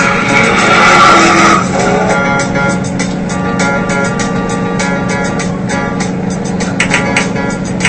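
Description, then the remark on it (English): A car engine roars as a man gets in his car and drives off, tires squealing and skidding loudly over the first couple of seconds, then the vehicle keeps driving with a steady, rumbling drone and scattered scraping noises. “And now he gets in his car and the killer karma.”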